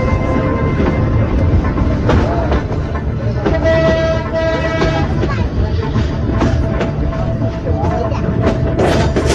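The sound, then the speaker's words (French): Three shrill train departure whistle blasts cut through a busy, noisy station platform where a crowd murmurs and clatters throughout, as a train delayed 35 minutes prepares to leave, with a sustained high tone standing out in the second half. “Il y a eu trois coups de sifflet, là ça devient sérieuse quand même.”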